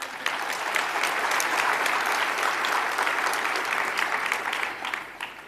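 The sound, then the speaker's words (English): A large convention audience in a full hall, a record 1,504 registered attendees, claps steadily, a dense wash of overlapping hand claps that holds at an even loudness for several seconds before tapering slightly at the end. “So I'm glad you applauded before I tell you this.”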